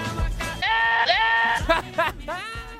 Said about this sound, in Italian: Capre che cantano nel delirio più totale a Radio Vue.it.